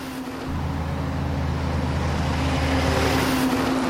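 A heavy logging truck rumbles along a road running beside a river, its deep engine drone swelling steadily louder over a few seconds as it approaches and passes, with no voices.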